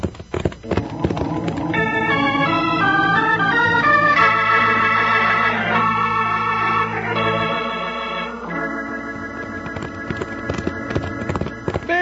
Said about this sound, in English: stretch out that horse of yours. We got some riding to do.